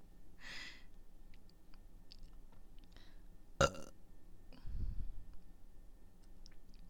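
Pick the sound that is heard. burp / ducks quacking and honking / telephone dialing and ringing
burp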